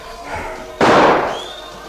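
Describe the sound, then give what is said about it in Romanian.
A single loud shotgun blast, fired during a hunt just to the narrator's right, cracks out after a quiet moment, sending a spray of pellets onto the branches ahead; its sharp report fades into a short rumbling tail. No one speaks. “Dar când se iau pușca la ochi, un trăznet răsună chiar în dreapta mea și o ploaie de alice pâre pe crengile din față.”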